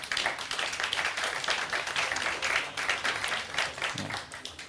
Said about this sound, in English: A big applause, please.